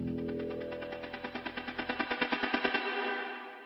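A rapid, machine-gun-like string of firework bangs, roughly ten per second, crackling loudly over a continuous rumble before cutting off abruptly.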